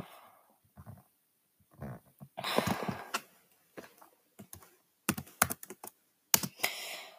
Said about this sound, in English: So yeah, if you can hear my keyboard, it's just because my computer is bad. Well, it's not a computer. Oh well, it is kind of a computer. They mark this as a computer, at least an alternative, but it's really not. It's really more like a tablet